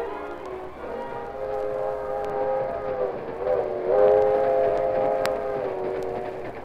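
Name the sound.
train moving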